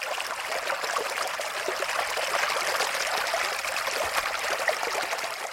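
mountain stream water flowing

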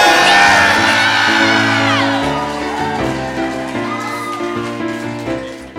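crowd cheering wildly

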